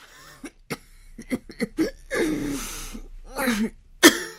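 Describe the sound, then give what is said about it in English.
A sick woman in a dark room coughs repeatedly and painfully, short harsh bursts between strained, rasping, labored breaths, with a longer ragged wheezing fit in the middle and a final sharp cough, with no talking. “From the dark room came the sound of a woman's labored breathing and painful coughing.”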